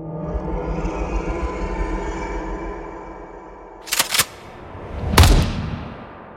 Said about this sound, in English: A shot rang out across the attic as an explosion of blood erupted from the harpy's right knee.